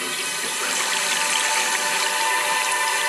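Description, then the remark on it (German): Water flowing and splashing steadily at a spring, in a Selters mineral water advertisement; a continuous bright rushing sound that stays even and fairly loud throughout, with no voices. “Vor tausenden von Jahren, als die Natur noch rein war, nahm ein Wasser seinen Weg durch tiefes Mineralgestein bis hin zu dieser Quelle.”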